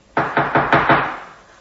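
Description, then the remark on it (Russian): Five quick, evenly spaced knocks on an apartment door, loud, each one thudding with a short hollow ring that fades after the last rap. No voices. “Я очнулась, когда раздался стук в дверь нашей квартиры.”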